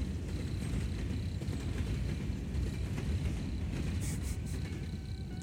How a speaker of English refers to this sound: Pause for this train.